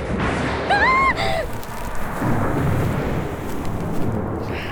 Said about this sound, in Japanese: ごめん、私雷苦手で。